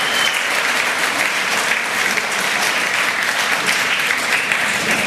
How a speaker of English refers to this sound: All right, let's wrap it up. So give a warm applause for our talkers, if you like to help.